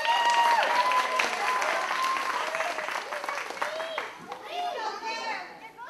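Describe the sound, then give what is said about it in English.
Loud, sustained audience applause as a performer leaves the stage, dense steady clapping mixed with high excited cheers and whoops from children, easing slightly in the final seconds. “He leaves the stage to thunderous applause.”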